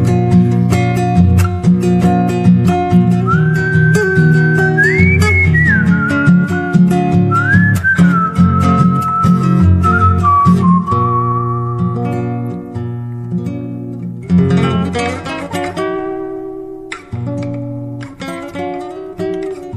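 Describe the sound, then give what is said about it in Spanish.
A person whistles a sliding, wavering melody over a steady musical backing, the whistle loud for several seconds before fading out and leaving the music to carry on. “Por costumbre prendí un negro, taloneé mi moro pampa y ya me largué al galope chiflando como si nada.”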